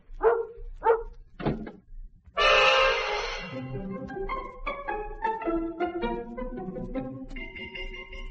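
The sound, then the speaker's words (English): A large Alsatian dog named Bruno, weighing about 130 pounds, barks three times in quick, sharp bursts, followed by a sudden loud rush of noise and then a run of melodic tones. “So there I was, left with 130 pounds of sensitive Alsatian and the wildest story I'd heard since Tommy Manville said he'd never marry again.”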